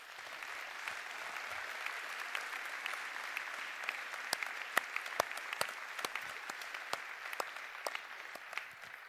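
A crowd claps steadily for several seconds to welcome a guest at a stage event, a dense wash of applause with sharper individual claps popping out on top, sustained at an even level without voices.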